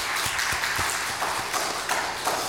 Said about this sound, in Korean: 우리 그런 의미에서 박수로 하나님께 영광을. 할렐루야.